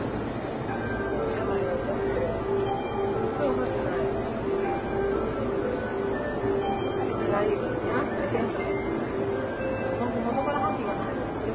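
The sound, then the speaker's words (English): Indistinct voices of passengers murmur steadily inside a rumbling Tokyo train carriage going into Yoyogi station, the low rolling hum of the moving car running underneath the conversation the whole time. “And there are actually people talking on this train. It doesn't happen often, but it's happening now.”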